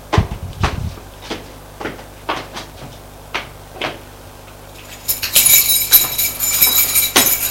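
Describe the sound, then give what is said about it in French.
Steady footsteps of a man thud up a flight of stairs in an old apartment building to the first floor, a dozen or so hard, evenly spaced steps, with a bright metallic rattle and clatter rising over them near the end. “Il est entré dans une allée d'un vieil immeuble. Monte jusqu'au premier.”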